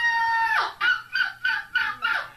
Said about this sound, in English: Is that a fan? No, that sounds. It's like a rooster. Seagull on crack.